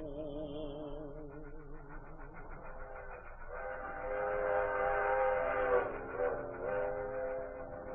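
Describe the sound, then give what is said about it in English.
A train whistle sounds in long, sustained chord-like blasts, wavering at first and then swelling louder toward the middle before easing off, over a low rumble of rolling rail cars. “And I hate to hear that lonesome whistle blow.”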